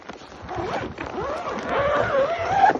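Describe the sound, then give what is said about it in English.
Soldiers pull a long body bag zipper closed in drawn-out, rasping strokes, fairly loud, rising in pitch toward the end with faint background noise, while clearing bodies of dead Russian border guards from a destroyed building at the Russian border. “We watched them load bodies and zip them into body bags, and this was really, you know, a grim scene of just what a difficult fight and losing fight this had been for Russian border guards at this site.”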